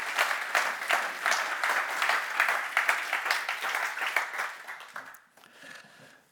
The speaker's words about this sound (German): herzlich willkommen mit einem Applaus.